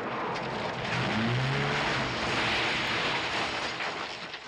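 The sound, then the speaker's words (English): A Volkswagen Beetle driven by the character Foley, played by Jack Thompson, in a film's opening scene; its engine hums low and steady under loud, continuous road and wind noise, with the engine pitch briefly rising as it picks up speed. “Yeah, and the opening scene features Foley, the main character played by Jack Thompson, driving his VW Beetle, looking sort of very tired in the rearview mirror.”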